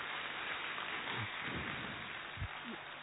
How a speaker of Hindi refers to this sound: Very good, अपने लिए जोरदार ताली बजाएंगे।